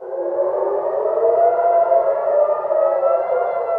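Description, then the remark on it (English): Civil defense air raid sirens blare continuously across Tel Aviv, Israel, as the Israeli military detects fresh missiles from Iran: a loud sustained wailing tone with overlapping pitches that hold steady for the whole stretch, with no voices. “Sirens blare across Tel Aviv as the Israeli military detects fresh missiles from Iran.”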